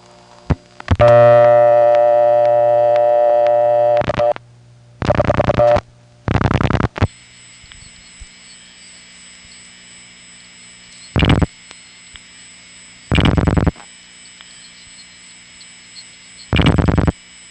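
A telephone call to the 266 office through an old Bell System step-by-step CDO exchange: a buzzy tone and clattering switch bursts, then a steady hum with three short, harsh bursts of the newer CDO ring spaced a few seconds apart.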